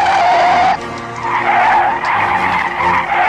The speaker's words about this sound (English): Ted stomps his feet on the brakes, and the wheels of the plane buckle and detach.